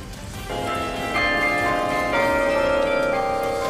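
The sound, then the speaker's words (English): Bells ring out from the newly completed Bell Tower at NC State University in a few successive strikes, each new tone layering over the lingering hum of the last, loud and resonant with a faint wash of outdoor noise beneath. “The story behind adding bells to this iconic tower coming up.”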